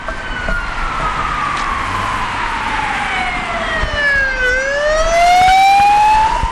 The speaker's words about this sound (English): so this sort of the main artery across into the rest of New South Wales, one of the major arteries into sort of western New South Wales. So there's a lot of noise and trucks on this road. It's a four-lane highway.